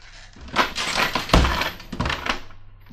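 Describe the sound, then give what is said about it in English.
A trap door slams shut with one heavy, booming thud amid a burst of crashing and clattering, the slam breaking dishes in the house across the street, which rattles on for a couple of seconds before fading. No voices. “Got to close the trap door.”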